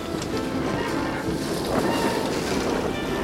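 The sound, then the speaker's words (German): A catamaran sailboat races along with a loud, steady rush of wind and splashing water, a continuous roar with gusts buffeting the microphone and no voices. “Dieses Boot ist aber auch ohne mich sehr schnell unterwegs.”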